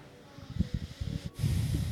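Heavy breathing: a few short, breathy puffs of air, followed by a longer, louder hissing exhale that fills the final half second. No words are spoken.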